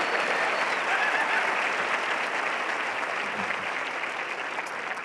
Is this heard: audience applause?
yes